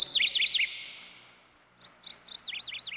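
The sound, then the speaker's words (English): Birds sing in a little garden with blue, pink and white flowers, in quick, high chirping phrases, a rapid burst of bright notes, a brief pause, then another run of repeated tweets. No voices, just clear birdsong. “Birds sing there day and night.”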